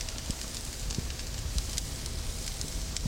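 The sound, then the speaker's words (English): A fire crackles steadily, with sharp irregular pops and snaps over a continuous low rumbling hiss. No voices are heard. “Crackle the fire? That's not too loud.”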